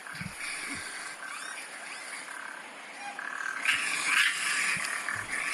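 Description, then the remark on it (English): Raccoons hiss and squeak in a steady, breathy wash of noise, with a few sharper, high-pitched squeals rising briefly in the middle; no one speaks. “And the hissing and the squeaking.”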